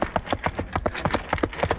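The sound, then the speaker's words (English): Steady horse-and-wagon clip-clop sound effect, about ten crisp hoofbeats in quick regular rhythm, fairly loud with no talking; made by wiggling a box mounted on casters with a foot while hitting two rubber plungers on a chest at the same time. “That wagon is a box mounted on casters, which the sound effects man wiggles with his foot.”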